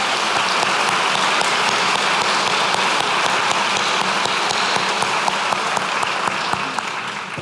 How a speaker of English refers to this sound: So let's have a big round of applause, class of 22. We made it!